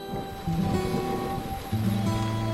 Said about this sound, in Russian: Но вот беда, погода испортилась. Царевна, на улице дождь, погулять сейчас не получится.